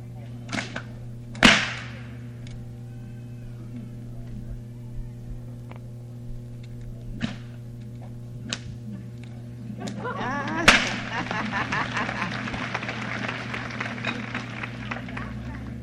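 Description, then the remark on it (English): A 12-foot bullwhip cracks sharply several times at irregular intervals over a steady background hum, with two especially loud snaps, the last one giving way to a sustained wash of crowd noise. “Using a 12-foot whip for this.”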